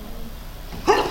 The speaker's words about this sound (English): Bless you.